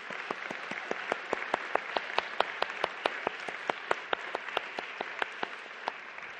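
Steady audience applause for the musicians and singers at an evening event: many hands clapping together, with sharp individual claps standing out in a brisk, fairly even rhythm, sustained throughout without any voices.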